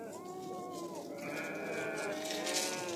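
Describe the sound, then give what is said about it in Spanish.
A flock of sheep bleats continuously in the mountains, several overlapping wavering cries at different pitches layered into a steady, fairly loud chorus with no talking. “Entretanto, en la montaña donde se había refugiado el rebaño, los pastores se calentaban alrededor de una fogata.”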